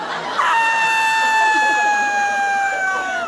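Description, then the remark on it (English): A single piercing, high-pitched, blood-curdling scream let out by a person in bed as a giant shadow rises over the foot of the bed, loud, held steadily for about three seconds and sliding slightly lower in pitch as it fades. “It was the highest pitched scream I have ever let out.”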